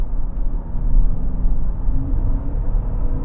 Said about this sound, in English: Listen to that engine, eh? Just whips up there to 4,500 RPM, no problem.